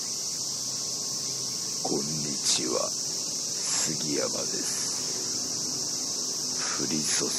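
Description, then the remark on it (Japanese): A dense chorus of cicadas buzzes steadily and shrilly throughout in the rain at Kiyoi-cho Shimizudani, a dark green spot in central Tokyo, a constant outdoor drone, with a few brief, faint voices or calls rising in the background. “セミシグレ、そして雨。今日は都心のダークグリーンスポット清井町清水谷からお送りしています。”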